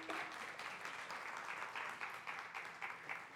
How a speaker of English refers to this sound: Let's give them a round of applause for sharing.